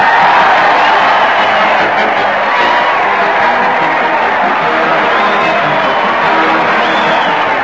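A large crowd jumps up and down and cheers continuously as Fred Allen leads his weekly parade to the old Town Hall on Town Hall Tonight, a loud, dense roar of many voices with scattered whoops rising above it, steady throughout without pauses.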